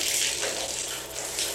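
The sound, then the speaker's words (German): A steady rush of water from a shower in a modern hotel bathroom in Cologne pours continuously, a broad hissing spray that stays loud for the whole moment with no voices over it. “Und hier ist die Dusche.”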